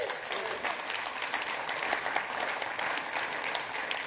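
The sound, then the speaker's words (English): Steady, dense applause from an audience clapping for Jesus, many hands clapping at once in a continuous wash that holds an even loudness for about four seconds, with no voices rising above it. “Can we give Jesus a clap today?”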